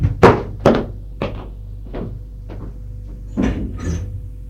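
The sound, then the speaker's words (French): A man opens his front door after someone rings: a quick series of solid clunks and rattles from the latch and handle, followed by a softer creak and a final thud, with no one speaking. “On sonne à sa porte. Il va ouvrir.”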